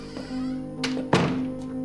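A bedroom door is pushed shut: a light click, then a solid, fairly loud thunk a moment later, over a steady low hum that runs throughout.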